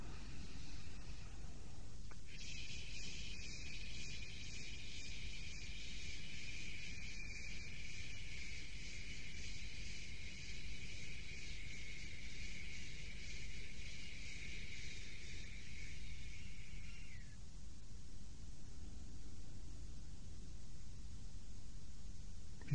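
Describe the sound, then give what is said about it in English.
A long, steady shushing breath out, made as the gentle 'liver sound' in a breathing exercise, a soft hiss that holds evenly for about fifteen seconds before stopping, with no talking over it. “It's the sound of asking a little baby to hush.”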